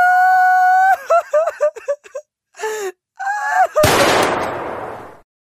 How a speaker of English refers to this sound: Where's that weeping sound coming from?